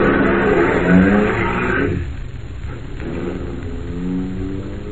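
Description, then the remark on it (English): A car engine revs loudly, then quickly fades as Harris drives the vehicle away, leaving a softer, lower rumble trailing off. “When Harris drove away, I walked over to my car and got in.”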